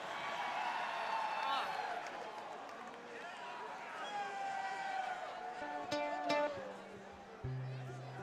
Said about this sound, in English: If you guys are cheering for that, we can't lose tonight.